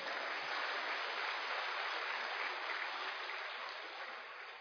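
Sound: applause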